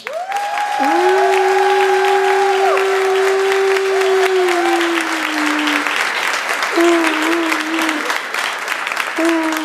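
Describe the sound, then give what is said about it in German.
A crowd applauds steadily for several seconds, dense clapping throughout, while sustained whoops and cheering voices rise above it, applauding a contestant at a stage show. “Und jetzt euer Applaus”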